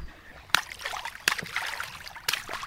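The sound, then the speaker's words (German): Feet splash in the water of the Waldbad Osterwald outdoor swimming pool in Germany: water sloshes and splashes, with three sharper splashing bursts spaced about a second apart over a steady trickling wash of pool water. Nobody speaks. “So, ich jetzt aber auch meine Füße rein.”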